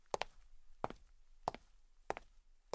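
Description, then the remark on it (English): Five heavy footsteps of a fat man walking over at a slow, steady pace, each landing with a doubled thud, moderately quiet, with no voices over them. “a fat man's footsteps could be heard walking over to him.”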